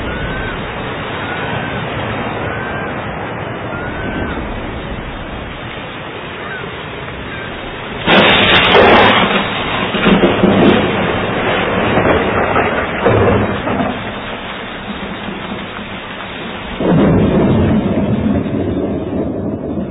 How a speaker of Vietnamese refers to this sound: Mưa bão dữ dội như thế này, chúng ta chết mất. Trời mưa bão quá, chắc chúng ta chết mất thôi.